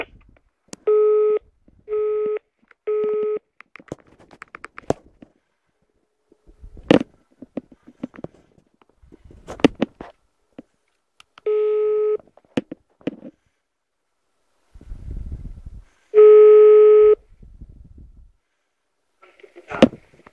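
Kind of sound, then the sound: signal or alarm, telephone line tones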